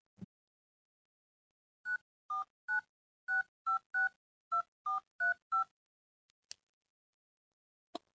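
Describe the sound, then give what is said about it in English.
A quick run of about ten phone keypad beeps, each a short two-pitch tone in an even rhythm, as a phone number is dialed at a daycare center to call a child's mother again, followed by a couple of faint clicks. No one speaks. “I already tried calling her, sweetie. She's not picking up yet, but you know what? I'll try again.”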